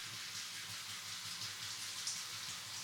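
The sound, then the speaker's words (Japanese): A steady, hissing stream of water from a shower pours continuously, rinsing soap foam away during a hand massage, fairly even in level with no voices. “泡がどんどん流されていくね。”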